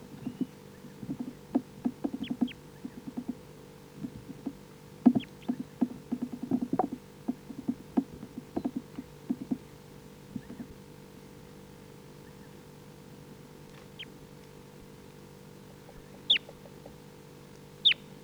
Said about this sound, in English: Birds are foraging a little bit on this tree. Pretty quiet.